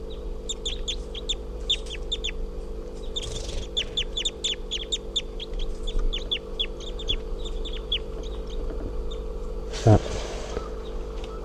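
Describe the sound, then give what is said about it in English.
A rapid, steady series of short, high-pitched chirping calls from a just-captured juvenile crossbill, bird number 351, runs throughout, over a constant low hum, with a couple of brief rustling bursts partway through. “And I think these are the calls of 351 here.”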